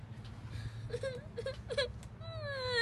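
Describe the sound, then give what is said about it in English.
A puppy whimpers in a few short, high-pitched whines, then lets out a longer, wavering whine at the end, all over a low, steady background hum. “You got me a puppy! You got me a puppy!”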